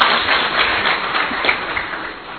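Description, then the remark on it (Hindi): A seated audience applauds for themselves, a dense rush of many hands clapping at once, fairly loud and even throughout with no voices over it. “ताली बजाओ अपने लिए।”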